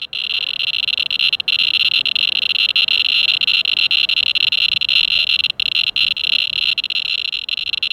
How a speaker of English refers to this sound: So the sound I heard when they're just walking around with the scanner, it was picking up background radiation.